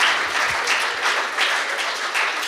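A crowd applauds steadily, a dense wash of many hands clapping at once, fairly close and sustained without pause, with no one speaking over it.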